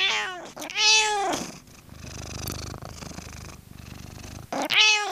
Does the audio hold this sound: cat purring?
yes